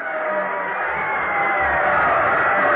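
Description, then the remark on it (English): A football stadium crowd at a Riverdale game cheers in a steady, unbroken roar after a touchdown, a dense wash of many voices holding at a constant loud level for the whole stretch, with a slightly muffled, thin tone. “Listen to that crowd.”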